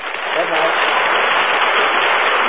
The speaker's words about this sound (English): That applause goes from coast to coast.